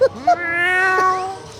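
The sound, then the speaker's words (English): A cat lets out a single drawn-out, high-pitched howl outside, rising at first and then holding its wailing tone for over a second before fading, with no talking; the cat howls to announce it has brought home a stolen item. “the cat burglar loves to let her current owner know that when she's pulled off a successful heist by emitting a signature howl”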